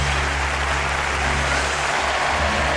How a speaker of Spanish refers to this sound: Bájame los aplausos que no oigo.